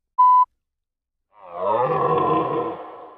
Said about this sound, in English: It was a deer. It eats grass.